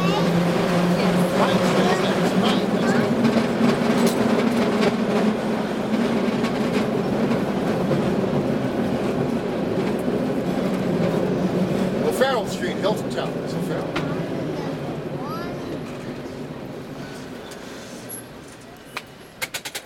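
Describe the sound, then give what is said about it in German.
An old cable car rattles along the street tracks of Powell Street in San Francisco, ridden on its running board, with a steady rumbling drone and irregular metallic clicks and clanks, loud, fading slightly toward the end. “Auf dem Trittbrett des alten Wagens fahren wir die Powell Street entlang, vorbei an den großen Hotels und Einkaufszentren, quer durch den Financial District.”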